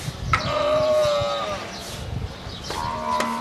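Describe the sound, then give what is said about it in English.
A camel at a state-of-the-art camel dairy of 4,000 camels in the desert outside Dubai, UAE, bleats twice, a long, nasal, wavering call followed after a pause by a shorter one, fairly loud over a steady low background rumble. “Guess what animal? Sheep with a head cold? Answer, camel.”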